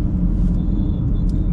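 Steady low engine rumble fills the inside of a moving car, a constant droning hum with faint road noise and a thin high whine above it, no voices.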